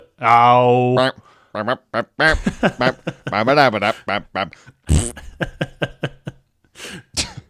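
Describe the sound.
A short, goofy comedy jingle used as a callback theme, made of sung and voiced novelty noises: a long held note, then quick bouncy sliding tones and bursts, finishing with a brief fart sound.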